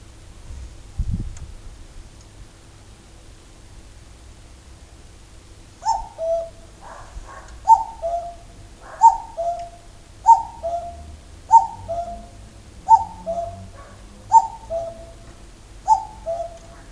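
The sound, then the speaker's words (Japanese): A cuckoo perched on a TV antenna on a house roof calls its two-note descending cuck-oo about eight times in steady rhythm, clear, after several seconds of quiet outdoor rumble. “生まれて初めてですね、私あのカッコウが泣いているのを肉眼で見ました。”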